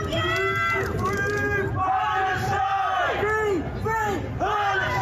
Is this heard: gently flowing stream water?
no